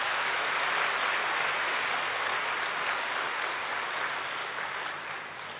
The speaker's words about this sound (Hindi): तो एक बारी आप सभी अपने लिए जोरदार ताली बजाएंगे।